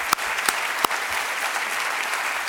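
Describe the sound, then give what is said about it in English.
A crowd applauds the readers at an evening reading event, a steady, dense wash of clapping with a few sharper, louder claps standing out near the start, sustained throughout without any talking. “Can I just get one more round of applause for all of our readers tonight?”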